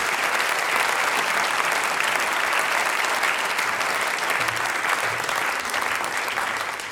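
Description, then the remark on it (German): Sustained applause from a large crowd, a dense, steady roar of clapping hands that holds at an even, loud level for the full seven seconds without voices standing out. “meine Damen und Herren, mit einem großen Applaus.”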